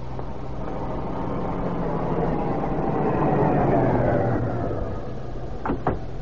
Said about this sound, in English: There comes the car now